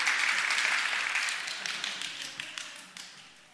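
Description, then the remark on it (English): Many people gently tap their fingers against their palms to imitate rain, first one finger, then two, three and four: a dense, hissing patter of quick light taps that starts full and gradually thins and fades, with no voices. “You see, the rain started. Then two fingers. And then three. And then four. You hear how the rain came down.”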